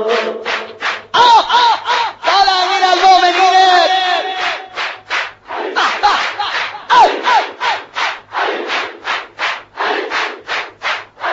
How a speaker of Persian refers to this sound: باید تو نجف ببین، این صدای جمعیت